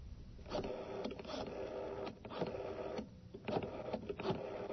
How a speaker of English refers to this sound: I must have dialed it wrong.